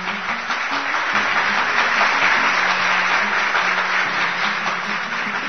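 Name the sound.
applause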